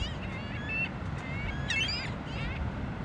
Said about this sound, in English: we couldn't let the summer go by without featuring this beach bird. It's the ring-billed gull this week.